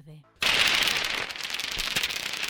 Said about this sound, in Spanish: Esto que estamos escuchando es el sonido de los murciélagos.